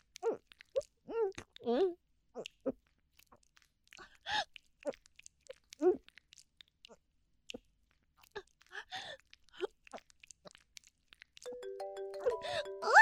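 A phone starts ringing near the end, a steady electronic ringtone of stacked tones that grows louder, following scattered short vocal sounds and murmurs earlier on.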